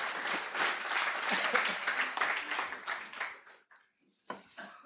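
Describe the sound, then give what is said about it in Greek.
A crowd breaks into steady applause, dense clapping filling the first three and a half seconds before fading out, then a short burst of claps returns near the end. “Παρά και σε ένα χειροκρότημα”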